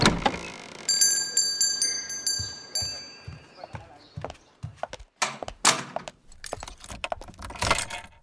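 Keys jangle and clink in bright metallic bursts, interspersed with soft thuds and shuffling movements, as if someone fumbles with a key ring.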